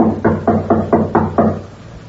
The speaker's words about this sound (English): Okay. Now, you knock, Peters. I'll cover you.